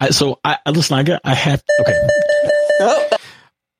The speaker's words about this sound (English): That would be the bell, but this is like, you know, she's truly in the school right now.